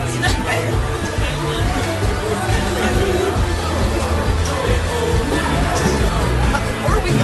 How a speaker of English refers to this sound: Wait till you hear the crowd. The crowd's just going to go wild.